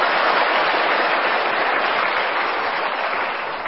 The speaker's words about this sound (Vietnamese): Vậy thì các em phải cho một tràng pháo tay để chúc mừng mình.